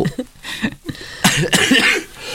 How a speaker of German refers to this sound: hat den berühmten Hustenanfall.